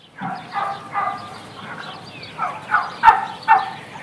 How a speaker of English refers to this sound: That wasn't Dan Barber. Right, yes. Those were turkeys.